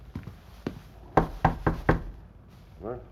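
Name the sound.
knocking on a door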